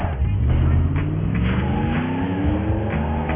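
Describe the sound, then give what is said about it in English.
A car speeds off, its engine revving hard with a steadily rising pitch that stays loud and continuous for several seconds, with no voices. “Make the tires skirt.”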